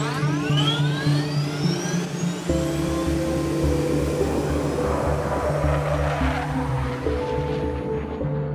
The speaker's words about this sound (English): And at that point in time, I've got to start this aircraft and just go without any of the normal processes or procedures or rhythms that we normally do. I mean, it is the minimum. What are the things that I need to do to get the engines started?